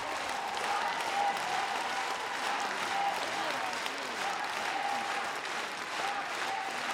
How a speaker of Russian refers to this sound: похлопаем, похлопаем артисты.